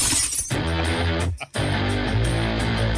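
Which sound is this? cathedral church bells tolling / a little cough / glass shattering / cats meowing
glass shattering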